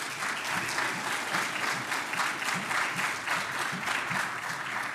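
An audience claps steadily for a church member's birthday, a dense, sustained wash of applause at an even volume with no voices rising above it.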